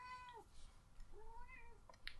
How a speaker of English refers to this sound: I can hear a cat agreeing. Yeah. Yeah. Is that Bubastis? Yeah. Yeah, Bubastis.